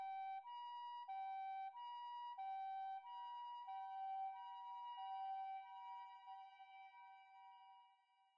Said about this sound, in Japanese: そして、遠くの方で耳をつんざくサイレンの音が鳴りました。